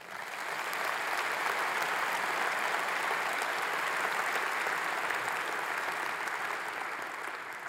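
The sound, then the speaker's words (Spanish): A large audience applauds the Lord steadily, a dense wash of many hands clapping at once, sustained and loud for several seconds before easing slightly at the end. “Si el Señor ha sido bueno con su vida, si ha sido fiel, te voy a pedir que le regalen un fuerte aplauso.”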